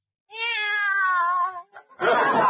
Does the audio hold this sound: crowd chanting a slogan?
no